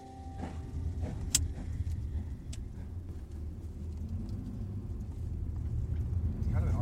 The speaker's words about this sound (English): I was in a car with Roger just outside Portland, winding along a forest road.